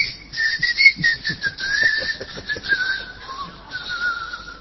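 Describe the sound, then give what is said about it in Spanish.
A long, steady, shrill whistle blows for several seconds in a plaza to announce closing time, its pitch sliding slightly downward toward the end, with a faint rough pulsing underneath and no talking. “Sí, suena el silbato, señor, y usted no...”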